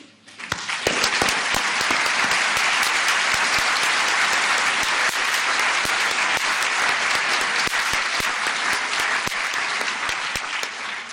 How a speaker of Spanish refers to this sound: Tributadles un cariñoso aplauso para que les llegue allá donde se encuentren.